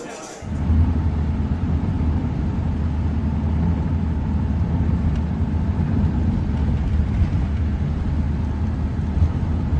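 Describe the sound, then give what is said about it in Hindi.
A car drives along steadily, its deep engine and road rumble droning loud and unbroken for the whole stretch, as if heard from inside the moving vehicle. “गाड़ी तेज चलाओ।”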